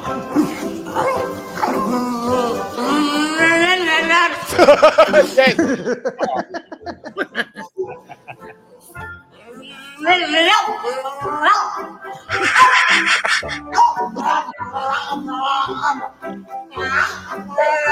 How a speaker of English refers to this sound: And anyone who doesn't like it, I mean, it's a freaking dog in a bath, mate. Like, relax.